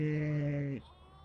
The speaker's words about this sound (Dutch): Er waren net zoveel schapen hier dat we ook niet hadden kunnen opnemen. Nee, want je hoort het een beetje nog.